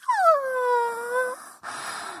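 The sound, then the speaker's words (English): A drawn-out human whimper: one high, tonal whine that slides downward and holds for over a second, then breaks into a soft, breathy exhale. No talking. “I want you to listen to me. Listen to my whimpering.”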